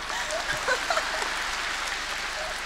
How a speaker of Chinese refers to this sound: 鼓掌